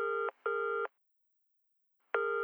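A telephone rings with electronic tones as a phone call about a meeting is put through: two quick bursts close together, a pause, then another burst begins, steady and clear with no voices.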